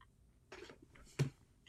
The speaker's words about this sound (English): I don't know if you hear this, but I'm just moving in my chair because, like, what?